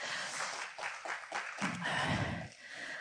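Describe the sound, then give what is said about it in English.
A room of people claps together, a dense crackling burst of applause that holds steady for a few seconds before thinning slightly toward the end, with no voices over it. “Thank you, but I've got another story which really is not one for clapping, so up there, believe you me, I'm only human.”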